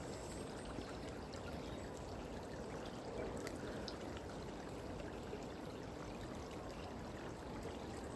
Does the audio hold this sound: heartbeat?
no